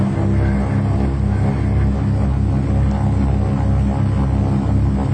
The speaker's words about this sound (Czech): To znamená, že motor funguje, ale my stojíme.